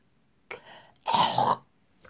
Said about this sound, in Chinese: 呸！喜欢吃吗？啊？本小主吐的浓痰好吃吗？啊？个贱货，给我快点咽下去！